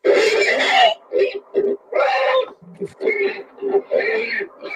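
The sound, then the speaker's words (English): A voice imitates a pig, letting out a run of about five or six loud, nasal oinks and snorts in quick, uneven bursts, with no other sound. “That's a pig noise.”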